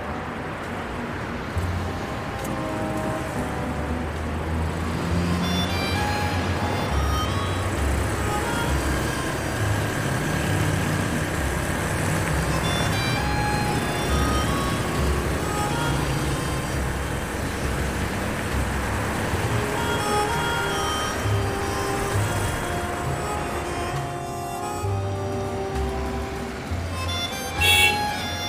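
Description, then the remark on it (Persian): A car engine runs steadily throughout, a continuous low rumble with road-like noise, even in loudness, with a faint voice or two occasionally underneath. “این ماشین از کجا آوردی؟”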